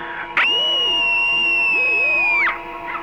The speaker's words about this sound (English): Meanwhile, to add to your screamscape... Screaming is a part of my dreaming. It happens only at night.